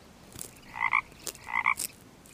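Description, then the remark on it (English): Two clear frog croaks, each a short rasping burst with a pulsing, ribbit-like quality, spaced about a second apart in a quiet setting. “A tortoise and a frog.”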